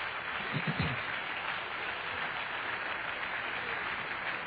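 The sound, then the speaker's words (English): An audience at a church service applauds the Lord together, a dense, steady wash of many hands clapping that stays loud and even throughout, with a brief low murmur near the start. “Let's give the Lord one great round of applause together.”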